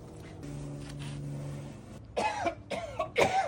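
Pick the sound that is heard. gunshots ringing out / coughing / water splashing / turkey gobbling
coughing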